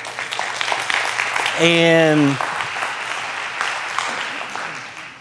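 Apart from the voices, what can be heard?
audience clapping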